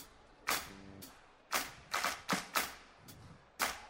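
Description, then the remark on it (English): Several sharp hand claps, about seven in all, land at an uneven pace, with a quick cluster in the middle and a faint hum between them. “Clap your hands.”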